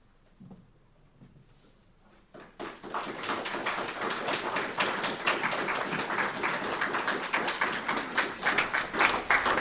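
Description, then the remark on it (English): After a couple of quiet seconds, an audience breaks into spontaneous applause at the end of a speaker's talk, many hands clapping densely and steadily, fairly loud and building slightly toward the end. “Obviously, you got some spontaneous applause there.”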